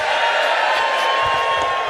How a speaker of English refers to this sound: Friends, I will just point out, you're cheering the fact the laptop is back on.